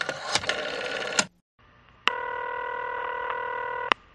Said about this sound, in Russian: Ровно в 5 она набрала номер.